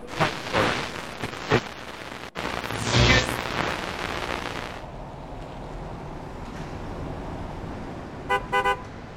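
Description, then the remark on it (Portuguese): Echoey parking lot ambience with scattered clunks and a loud rushing swell, then settling into a steady low hum before two short car horn toots near the end. “Ah, então é aqui que é o famoso estacionamento.”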